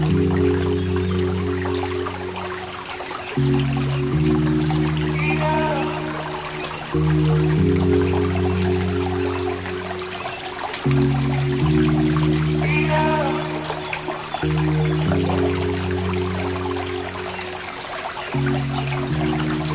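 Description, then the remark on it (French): A stream flows beside a path with a steady, close trickling babble. Low sustained tones hum underneath, and brief high chirps break through now and then. No one speaks. “En tout cas, est-ce que la vertu de ce petit coin sonore au bord du chemin, près du ruisseau, vous apaise à défaut de vous guérir.”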